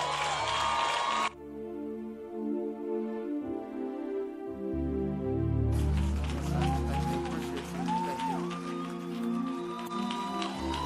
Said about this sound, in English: Will you make welcome Apostle Joshua Selman as he comes? Keep on clapping, celebrate grace.